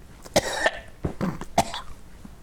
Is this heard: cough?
yes